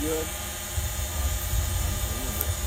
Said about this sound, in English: We do have a drone flying around out there. It's going to try to get a picture with the drone, and but that's in a different video.